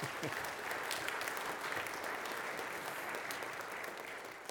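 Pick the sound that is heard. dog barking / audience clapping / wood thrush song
audience clapping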